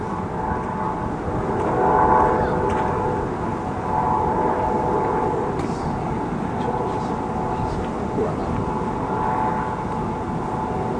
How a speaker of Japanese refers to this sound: おヘリコプヘリが 相当強いやつ。 今東海湾の上ヘリコプター飛んでますね。